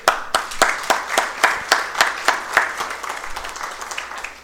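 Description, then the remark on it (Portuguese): An audience claps together in a steady, even rhythm, sharp crisp claps at first, then blends into looser, fainter scattered applause toward the end. No one speaks. “Merece as palmas, sim.”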